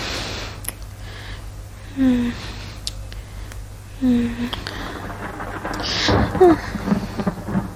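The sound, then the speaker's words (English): Thunder rumbles low and steady beneath a constant wash of rain, swelling into a louder rolling burst near the end, while a voice lets out a couple of short, soft sighs. “Oh, I hate the thunder so much.”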